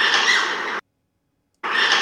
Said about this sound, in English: That high-pitched screaming sound, and it went further away once I got my phone out.